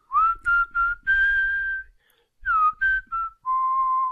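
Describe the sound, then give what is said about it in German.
A person whistles a short tune, a string of clear, steady notes in two phrases separated by a brief pause, with no talking. “Ich pfeife diesmal, vielleicht klappt es dann besser.”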